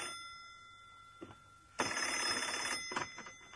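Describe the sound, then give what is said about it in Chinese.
After a quiet, faintly humming start, an old-style telephone bell bursts into a loud, rattling ring that continues to the end, with no voices; the telephone is ringing again after ten o'clock at night. “那电话铃又响了起来。”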